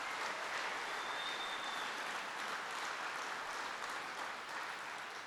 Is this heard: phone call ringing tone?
no